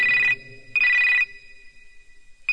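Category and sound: signal or alarm, telephone ringing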